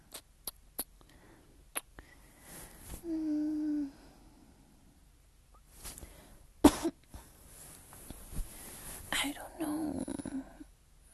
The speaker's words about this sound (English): It's allergies. Allergies don't make you cough. Allergies make you sneeze. What am I saying? It always happens at night though. I get a little cough.